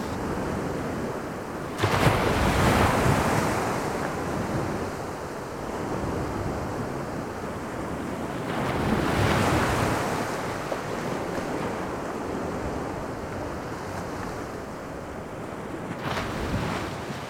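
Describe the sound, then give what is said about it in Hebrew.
Heavy waves of a wild sea by the missile boats of Flotilla 3 off Algiers surge and crash in repeated swells, about three big rushes, over a constant roar of northerly Mistral wind buffeting the microphone. No voices, just loud, turbulent water. “הגענו לכיוון הסטילים, ים מטורף.”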